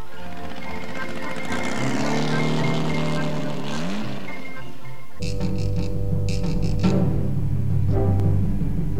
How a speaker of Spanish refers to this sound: Y si de diversión se trataba, las carreras eran todo un espectáculo. En el Bosque de Chapultepec se celebra la carrera de autos y motocicletas para el gusto de grandes y chicos.